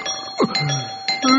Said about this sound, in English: The doorbell, who's that? Will you stop with the doorbell? Oh, sorry, I just really love the sound of doorbells, you know? I like how they go, bing bong!